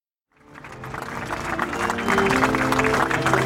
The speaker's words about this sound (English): Applause on the White House lawn marking the completion of a peace agreement involving Israel, the UAE, and Bahrain.